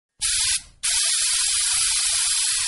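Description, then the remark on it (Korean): A loud, steady hiss of insecticide spraying from a pressurized can, a method of mosquito control: a short burst, a brief break, then a longer continuous spray, with faint low rhythmic ticking underneath. “살충제는 효과적으로 모기를 통제할 방법 가운데 하나입니다. 하지만 살충제 살포에는 단점들이 있습니다.”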